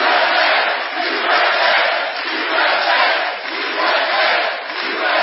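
A large crowd at a rally for President Trump in a Cleveland suburb cheers and roars continuously, a dense wash of many voices shouting together at a steady, loud level with gentle swells, and no single speaker standing out.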